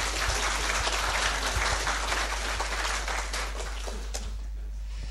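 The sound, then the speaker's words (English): An audience applauds steadily, a dense wash of many hands clapping at an even loudness for about five seconds, thinning slightly toward the end. No one speaks over it. “U mag nog een keer applaudisseren hoor.”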